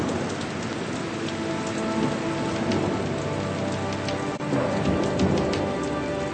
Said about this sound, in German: Die drei Freunde werden von einem Gewitter überrascht. Genauer gesagt, von einem Wärmegewitter.